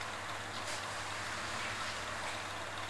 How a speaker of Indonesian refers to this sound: Enggak boleh keluar. Ada hujan loh, hujan.